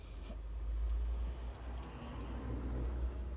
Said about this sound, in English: And sorry, that's just my car. Dash cam system switching off because I'm doing this as I'm parked up.